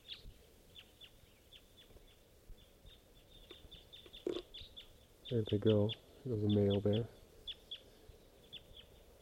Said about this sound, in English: And there's still quite a few crossbills around all type 2s.